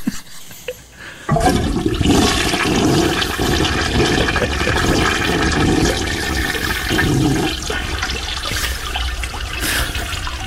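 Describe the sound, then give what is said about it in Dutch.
A toilet flushes with a sudden loud rush of water after a brief quiet moment, then keeps swirling and gurgling steadily as the water drains away, with no talking. “Ja, het is, nu is het water eigenlijk aan het weg.”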